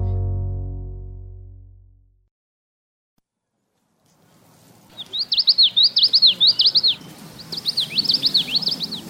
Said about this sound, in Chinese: 伴随着清晨的鸟鸣，昆明人诗情画意的一天在翠湖仅仅300亩的土地上拉开了帷幕。